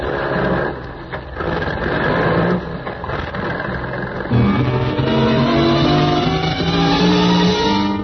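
A truck engine rumbles steadily at idle, then revs up partway through as the truck swings around a loading platform, its pitch climbing and holding at a louder, strained whine. There is no talking.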